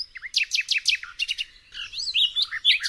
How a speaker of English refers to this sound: He has fled Paris for the country for the next 3 weeks, and I imagine he is happily looking at trees, flowers, cows, and having some good old peace and quiet. And a lot of music to go with the bird song, knowing Erwan.